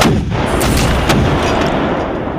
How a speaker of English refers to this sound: The American artillery responded, including 2 guns commanded by young Captain Alexander Hamilton. The American cannon fire was unrelenting, concentrating their attack on the Hessians' artillery.